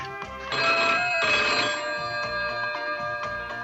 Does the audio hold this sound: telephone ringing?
yes